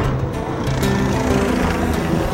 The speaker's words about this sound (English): Here comes the helicopter.